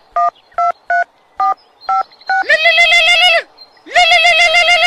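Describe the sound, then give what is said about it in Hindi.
A phone keypad being dialed early in the morning: six short, evenly spaced beeps, followed by two long, loud ringing tones with a brief pause between them. No voices. “बड़ा सवेरे ही फोन कर देलू, कोनो बात नहीं है ना?”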